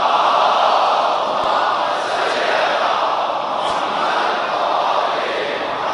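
A large audience loudly recites salawat in unison, a dense, steady roar of many voices chanting together that holds at an even level for the whole stretch, with no single speaker standing out.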